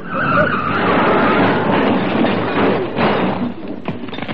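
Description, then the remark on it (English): A car skids hard with failing brakes on a road with bends, a loud, sustained roar of tyres and engine with a high squeal early on, breaking into a few sharp thuds near the end. “These brakes aren't working properly. I'll never get round those bends.”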